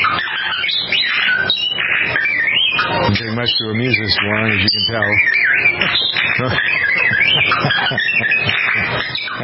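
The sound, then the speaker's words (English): A family's pet bird mimics the robot beeps of the Star Wars character R2-D2 with rapid warbling whistles, chirps and wavering pitch sweeps, fairly loud and continuous while a man talks over it. “will be serenaded with the audio from a video that features a family's pet bird who mimics his favorite Star Wars character, R2-D2.”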